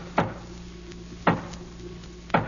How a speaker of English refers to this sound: Wait a minute, baby. Yeah, that's funny. Sounded like the boss's knock.